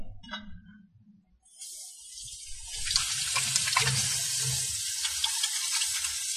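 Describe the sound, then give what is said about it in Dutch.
Tap water starts running after a brief clatter and streams steadily while hands are washed, splashing and rubbing under the flow, fairly loud. “Dan ga ik eerst de handen wassen.”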